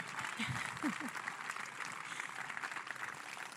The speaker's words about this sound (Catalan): I jo vull que fem un fort aplaudiment per la comissió de festes, perquè sense aquesta costura la festa no seria possible i no seria patrimoni immaterial de la humanitat. Així que un fort aplaudiment.